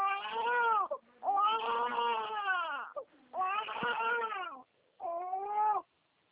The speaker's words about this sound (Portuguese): É que eu tô com minha netinha aqui no colo e ela tá chorando. Peraí, só um minutinho.